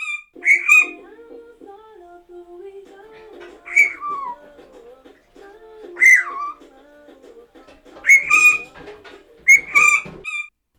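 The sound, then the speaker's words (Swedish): A pet bird lets out loud, shrill peeps in short bursts every couple of seconds, chirping along to the steady low humming drone of a washing machine's spin cycle. “Och när tvättmaskinen är igång så brukar hon pipa till centrifugen. Och så här kan det låta.”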